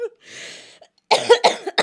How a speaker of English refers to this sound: What's that noise? I'm trying not to cough.